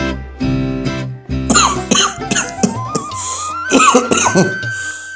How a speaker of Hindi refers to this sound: हे भगवान, ये खांसी तो जान ही ना ले ले।